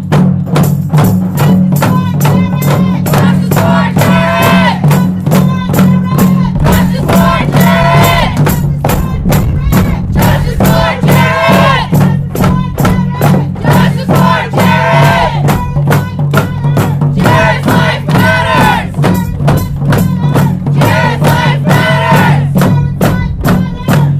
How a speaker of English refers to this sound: One of the three stops they made was at the RCMP station, where the crowd voiced their anger outside the door.